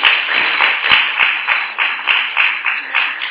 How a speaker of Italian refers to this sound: Bene, facciamo un applauso.